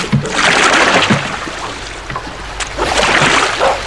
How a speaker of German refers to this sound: Also, meine Damen und Herren, ich schiebe jetzt mein Kanu ins Wasser.